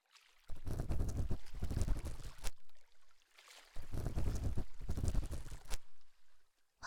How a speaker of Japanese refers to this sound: 私の好きなこのせせらぎの音、チャポンチャポンって